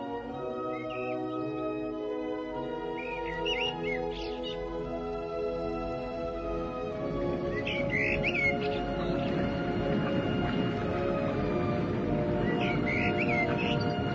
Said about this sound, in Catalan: Per la terra enfosquida no restava ni un rastre de sol, i el vell fons de la morera començava a cantar el rossinyol.